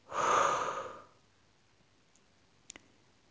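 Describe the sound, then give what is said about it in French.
A strong, breathy rush of air as a deep breath is forcefully blown out during a guided relaxation exercise, lasting about a second, then quiet with a couple of faint clicks. “Inspirez profondément pour vous dynamiser. Soufflez fortement.”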